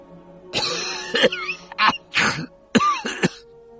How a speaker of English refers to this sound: coughed again, and it was a deep, wrong sound.